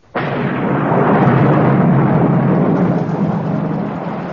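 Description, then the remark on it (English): A thunderstorm breaks in abruptly over a parade: a loud, sustained roar of thunder and heavy rain that holds steady for about four seconds, with no voices. “Oh, Lord, sir, we're going to be drenched. Yes, we are indeed.”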